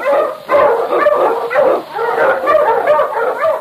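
King, a large Malamute sled dog and Sergeant Preston's lead dog, barks loudly and excitedly in quick, continuous bursts with yips and whimpering tones, with no talk over it.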